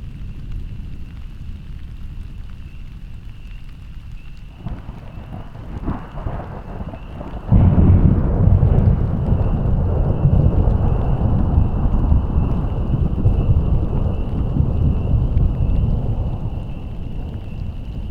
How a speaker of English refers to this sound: So I have paused this. And so that is the Rolling Thunder.